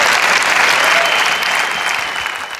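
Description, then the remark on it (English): An audience at the Rock Church and World Outreach Center breaks into steady, dense applause in praise of the Lord, a continuous wash of many hands clapping at once that stays loud throughout and only slightly eases toward the end. “If God spoke to you tonight, come on, give the Lord a great big praise.”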